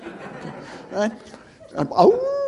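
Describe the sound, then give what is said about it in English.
A person imitates a howling beagle, letting out a short rising, drawn-out vocal wail near the end, preceded by chuckling and murmured voices. “So they howl, right? Howl like a dog around the city.”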